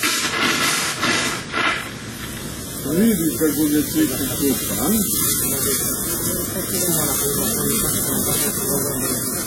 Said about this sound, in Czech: U tuširanju čini se da najviše uživa slonica Twiggy.